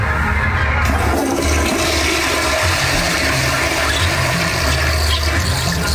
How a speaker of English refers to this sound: Okay, so we're going to play a sound effect of an actual toilet being flushed in Toronto. It's a Toronto-themed week.